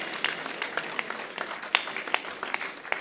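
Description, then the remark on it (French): An audience at an awards ceremony applauds the mayor of Catus, Olivier Liard, as the first trophy, for public networks and spaces, is presented: a dense patter of many hands clapping steadily for about three seconds with a few sharper claps standing out, moderately loud and with no speech over it. “Bravo, on peut l'applaudir.”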